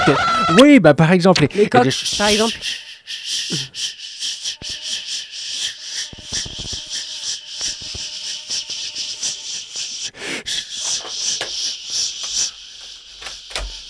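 A rooster crows loudly for the first couple of seconds, then a steady hissy, rustling wash takes over, with scattered short clucks and clicks through the rest.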